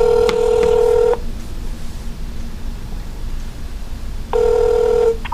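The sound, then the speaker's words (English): A telephone ringback tone sounds over a line on speakerphone while calling a guest: a steady electronic ring lasting about a second, a pause of hiss, then another ring starting, clear and fairly loud with no talking. “Oh, I got to put her on speaker. Here we go. Phone guest.”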